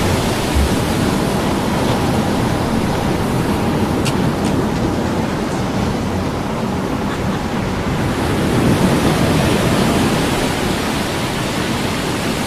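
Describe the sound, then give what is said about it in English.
A cyclone storm of torrential rain and wind roars as a dense, unbroken hiss at steady loudness for the whole stretch, with a few faint sharp ticks near the middle and no voices. “Before this cyclone wind with its torrential rain accompanied by peals of thunder and flashes of lightning, they were helpless.”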